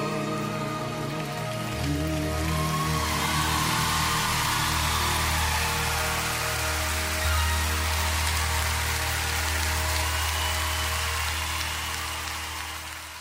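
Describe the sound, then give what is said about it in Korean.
A crowd applauds and cheers after a song, a dense, steady crackle of clapping that holds for the whole stretch over a low, sustained humming tone. “네, 박수 소리의 환호성에 이 맛에 가수를 하는 게 아닌가 싶네요.”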